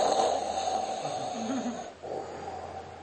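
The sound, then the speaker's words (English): A voice imitates the heavy, obstructed snoring of sleep apnea: a continuous rasping, wheezy snore that catches and briefly cuts off near the end, then resumes, fairly loud, with no talking. “It's very common for people overweight to have sleep apnea.”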